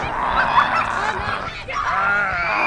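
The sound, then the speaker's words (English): Several volunteers playing zombies at a zombie camp let out overlapping, drawn-out groans as they shuffle with arms outstretched across a wooded park in Aurora, Colorado, a loud, continuous chorus of nasal moaning voices with no clear words. “And those groans belong to volunteer zombies.”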